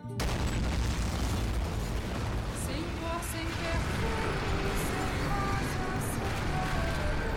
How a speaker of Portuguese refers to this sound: A uma altura de detonação de aproximadamente 580 metros do chão da cidade, o Enola Gay libera o que ficamos sabendo que seria o primeiro artefato nuclear explodido em uma cidade, a bomba em Hiroshima.